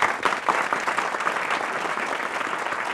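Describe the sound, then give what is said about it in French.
A large live audience at a Europe 1 radio broadcast claps steadily and warmly for Commandant Cousteau, a dense, sustained wash of applause at full volume from start to finish, with no talking over it. “Je peux dire, commandant Cousteau, que les applaudissements, vous les méritez, tous nos applaudissements.”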